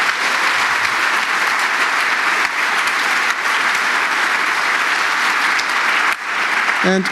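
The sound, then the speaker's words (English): An audience applauds steadily for the team of hackers who set everything up, a dense wash of many hands clapping at an even, fairly loud level for several seconds before thinning slightly near the end. “And yeah, I'd like to ask for some applause for them, because I was none of them.”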